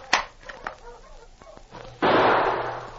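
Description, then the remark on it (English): A single loud gunshot, fired at a man travelling with a dog team in the snow, cracks out after a stretch of faint knocks and rustling, its blast lingering as a broad, slowly fading roar. “I shoot him after I shoot his master.”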